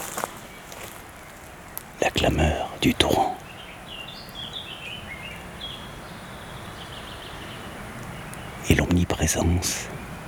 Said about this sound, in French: Des chants discrets des oiseaux.